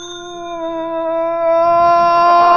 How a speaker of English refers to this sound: Okay, ring the bell, Philo. Okay, boss. Here goes.